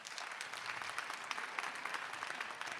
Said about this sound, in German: Jetzt erstmal euer Applaus für Romans in Mainz.